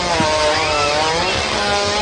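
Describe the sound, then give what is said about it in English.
A hippo farting, from a famous YouTube video: a loud, sustained rasping buzz lasting about two seconds, steady and engine-like, much like a motor or weed whacker running, with no talking over it. “Oh, the hippo fart?”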